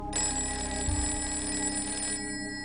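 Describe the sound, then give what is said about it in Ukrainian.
A telephone bell rings steadily at around midnight, its bright metallic tones sustained for about two seconds alongside a low hum before cutting off abruptly. “Телефонний дзвоник пролунав десь о півночі.”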